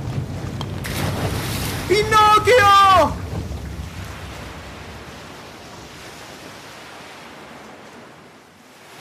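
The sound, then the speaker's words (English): A broad, steady roar of high, rough sea waves and strong gusting wind in a storm fills the scene, loud at first under a strained shout, then easing into a softer, continuous wash that fades toward the end. “And the waves are so high and the wind is so strong.”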